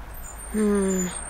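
A bus turns a corner and approaches, a low droning engine tone swelling for about half a second and sliding slightly downward over a steady background rumble.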